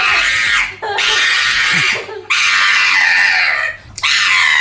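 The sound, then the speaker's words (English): A small pug screams shrilly and dramatically while getting its nails cut, not hurt but overly dramatic, in three long, loud wails separated by brief gasping pauses, with no talking. “Well, the pug getting its nails cut is hilarious in its own right. And again, this dog's not getting hurt. It's just overly dramatic.”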